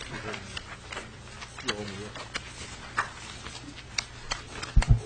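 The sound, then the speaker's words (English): Papers rustle and shuffle in short, irregular bursts as someone searches through stacks of paper for an amendment during a committee meeting, with soft taps and flicks over a steady low hum, then a couple of louder thumps near the end. “I'm still looking for my amendment, Madam Chair. We've got a lot of paper.”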